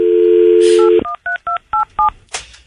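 A steady dial tone hums for about a second, then cuts off as a quick series of short, evenly spaced touch-tone beeps is keyed in, each a clear two-note chirp, with no talking.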